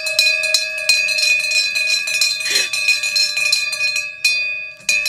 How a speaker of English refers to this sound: Wait, why isn't it ringing properly? Who's because you're touching the bell? You're not holding it properly. There we go.